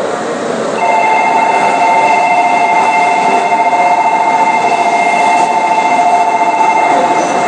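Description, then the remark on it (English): A Shinkansen bullet train in Japan, with a second Shinkansen coupled to it, hums along with a loud, continuous rumble, and a steady high-pitched electric whine rises in about a second in and holds throughout. No one speaks. “As I found out, we had another Shinkansen attached to us.”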